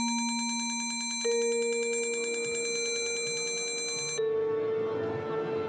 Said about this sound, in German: Aber man kann sich so einiges zuspielen da von den heimischen Geräten aus, zum Beispiel den Gong, den Originalgong aus der Oper.